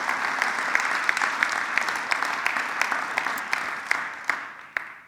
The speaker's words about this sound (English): Why don't we applaud your pastor this morning? Can we do that?